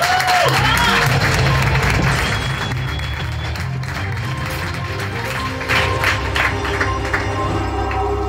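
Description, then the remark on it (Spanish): Steady, dense applause from an audience welcoming Madame Gamayo and her 'flash paranormal' segment fills the whole stretch, a loud wash of many hands clapping at once with a faint crowd murmur beneath and no voices rising above it. “Así que vamos a recibir con un fuertérrimo aplauso a Madame Gamayo y su flash paranormal.”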